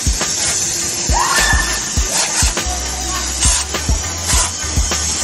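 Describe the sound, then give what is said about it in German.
An 86-year-old retirement-home resident and former pool attendant sprays water from a garden hose at prostitutes by a house entrance in Kleinbasel: a steady, bright hiss runs throughout, broken by soft low thumps every second or so and a brief squeaky whistle early on. “Die 86-jährige Alterssiedlungsbewohnerin war ehemalige Badmeisterin und weiss mit dem Schlauch umzugehen.”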